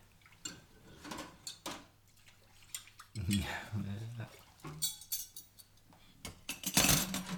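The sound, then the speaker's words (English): Dishes and cutlery clink and clatter in scattered bursts as someone does the dishes, plates and glasses knocking together as they are handled, with a low voice murmuring briefly partway through. “Rather than all these plates and glasses and cutlery and pots and pans.”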